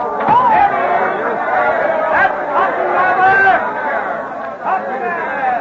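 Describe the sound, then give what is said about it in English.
A large crowd of people in Boston chatters and murmurs steadily below an open window, many overlapping voices forming a loud, continuous babble with occasional louder calls rising above the din. “Master Chairman, may I announce that to the crowd below?”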